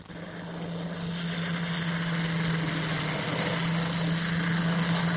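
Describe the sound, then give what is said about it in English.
Engines of nine torpedo-carrying Swordfish propeller biplanes from Victorious roar in a steady, continuous drone with a low humming tone, building briefly at the start and then holding loud throughout as they set off at 22:00 on 24 May to find the enemy ship Bismarck; no voices. “At 2200 that evening, the 24th of May, 9 torpedo-carrying Swordfish planes from Victorious set off to find the enemy.”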